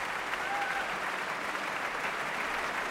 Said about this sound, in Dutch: Het gejuich zwelt aan en dat betekent dat het publiek de ster niet zomaar laat gaan. Diepe buigingen weer opnieuw van de dirigent en Diana Damrau.